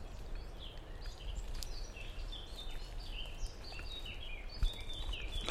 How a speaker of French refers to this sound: Sauf qu'en fait, c'est un merle, à la réflexion.